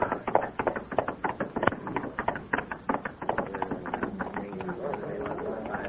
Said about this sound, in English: There he is! There he is! Riding the horse!